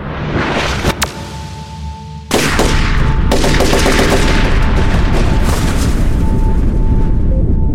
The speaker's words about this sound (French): Au même moment, un ancien élève âgé de 19 ans passe les portes du bâtiment. Il tient un fusil d'assaut AR-15 Smith & Wesson dans les mains et sans sommation ni explication, commence à tirer.